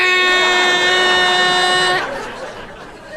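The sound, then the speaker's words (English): A voice imitates a fart that sounded like a pipe organ note: one steady, buzzy, reedy tone held for about two seconds, then abruptly cut off, leaving faint background noise. “You know how farts change octaves sometimes and go...”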